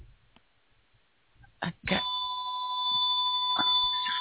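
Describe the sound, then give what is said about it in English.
After a quiet stretch and a brief thump, a steady electronic tone from a phone sounds with sustained harmonic lines, holding on until the end. “Sorry, that's... phone is me.”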